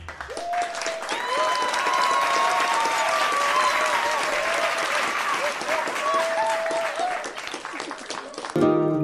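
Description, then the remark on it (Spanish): A crowd breaks into loud, dense applause that holds steady for about eight seconds, with voices calling and cheering over the clapping before it stops abruptly; the group applauds itself after chanting a line together in time. “¡Un aplauso fuerte!”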